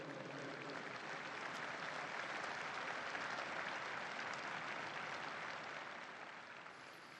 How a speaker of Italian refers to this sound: Un applauso a questo beato giovane così coraggioso.